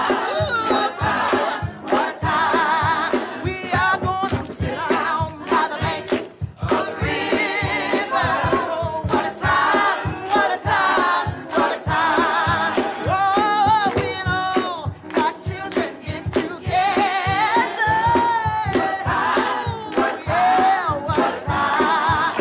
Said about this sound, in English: The congregation dance and sing along with the band who play on the stage.